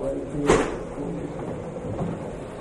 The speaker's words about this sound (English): All right, here, tell you what, gentlemen, let's pull this table over, okay? We've got the chairs. Pull this chair. You're a strong man.